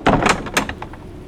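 A door latch is pushed down firmly with a clunk and a few sharp mechanical clicks, followed by the rattle of the door swinging open, fairly loud, with no voices.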